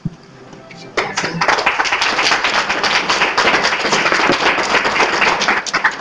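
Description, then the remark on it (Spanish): An audience of the programme Menuda Voz bursts into applause for a guest after a quiet second, dense rapid clapping from many hands that stays loud and steady to the end. “¡Un aplauso!”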